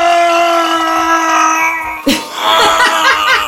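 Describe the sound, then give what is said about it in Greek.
A voice imitates a gym-goer's strained, grunting scream while lifting, a single loud held cry of about two seconds that breaks off abruptly into laughter. “Το 35% θεωρούν ενοχλητικές τις κραυγές. Ποιες κραυγές? Των σφιχτίδων.”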